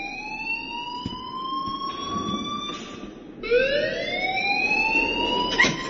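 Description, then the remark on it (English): A loud electronic alarm wails continuously, its tone rising steadily, then cutting out briefly and starting its climb again from a lower pitch. No one speaks over it. “Leave Miss Caulfield alone and please turn off that alarm”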